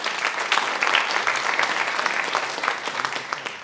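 Steady audience applause fills the room, a dense patter of many hands clapping at an even, fairly loud level with no voices standing out.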